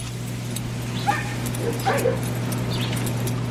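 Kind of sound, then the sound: animal, dogs barking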